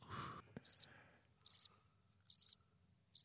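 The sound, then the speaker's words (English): A pet lizard chirps in four evenly spaced bursts, each a quick train of high, thin clicks about a second apart, following a short rustling noise at the start. No one speaks. “Well, you got a lizard in here.”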